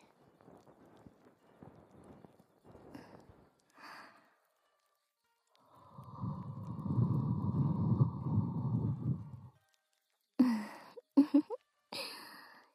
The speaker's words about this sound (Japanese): いきなり吐息かけられるとピクって体跳ねてしまいますね。